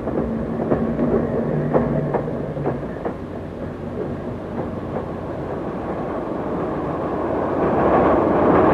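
A train nearing Reading rolls steadily along the rails with a constant low rumble, rhythmic clickety-clack beats over the joints early on, and the roar swelling slightly louder toward the end. No voices.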